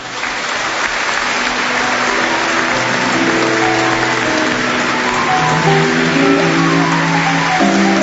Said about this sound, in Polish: Wielkie brawa i dziękujemy.